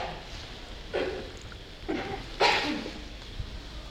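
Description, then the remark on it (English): A person sneezes: a sharp, hissing burst of breath follows a couple of softer, shorter huffs, heard over a low, steady background rumble with no talking. “Bless you.”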